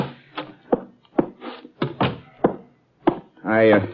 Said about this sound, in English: I'd better knock. Someone else decided to knock first.